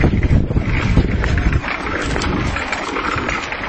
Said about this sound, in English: What's in front of us that's rumbling? That's a fire truck.